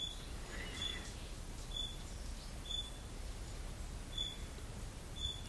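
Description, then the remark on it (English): A squirrel's alarm call: sharp, high chirps repeating about once a second, faint over a low outdoor rumble, with no one talking; the squirrel keeps chirping although the danger passed through the area about 20 minutes ago. “You hear that squirrel chirping?”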